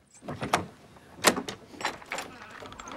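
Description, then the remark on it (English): A heavy padlocked door, its lock just broken with a metal wheel, scrapes and rattles open as Pollock opens it, with a few sharp knocks and clunks as it slides, fairly loud over a faint background murmur. “The lock breaks, and Pollock opens the door.”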